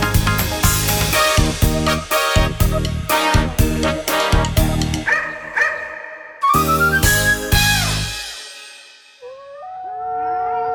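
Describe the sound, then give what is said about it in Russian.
Two chained dogs, Plikh and Plyukh, howl mournfully in a dog kennel: a run of loud, dense yelps gives way to long, sliding wails that rise and fall, the last one fading out plaintively. “Грустно воют Плюх и Плих, не пускают цепи их.”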